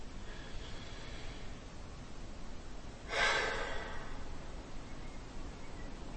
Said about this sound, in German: Dann schließen wir jetzt mal unsere Augen. Und atmen ganz tief in die Brust.